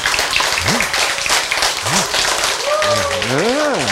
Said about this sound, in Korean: 아시겠죠? 박수 한번 치세요.